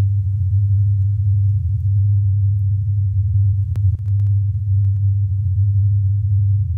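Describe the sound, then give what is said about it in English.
A steady, low droning hum, an approximation of the Taos hum reported in Taos, New Mexico, sustains at an even loudness for the whole stretch, with a couple of faint clicks near the middle and no voices. “All right, this is the hum, or at least an approximation of it.”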